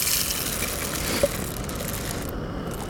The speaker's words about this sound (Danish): Sådan der. Det er jo en håndkværn, det her.